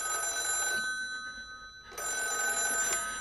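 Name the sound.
telephone bell ringing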